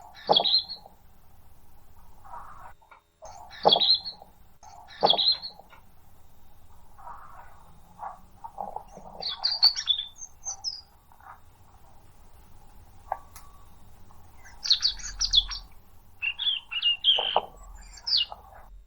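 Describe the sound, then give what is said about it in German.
A European robin sings alone in bursts of high, thin, warbling phrases separated by short pauses, clear, with a faint low background hum. “Ich würde zum Abschluss nochmal das Rotkehlchen anmachen.”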